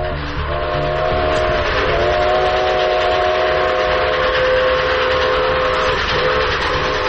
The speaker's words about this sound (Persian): ریزعلی می‌دانست که تا چند دقیقه دیگر قطار مسافربری به آنجا خواهد رسید. با خود اندیشید که اگر قطار با توده‌های سنگ برخورد کند، واژگون خواهد شد.